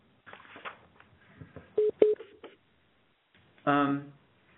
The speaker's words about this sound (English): I'm sorry, we are hearing a beeping sound coming from the call. Can everyone still hear us?